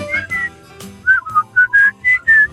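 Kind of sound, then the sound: human body sound, person whistling a tune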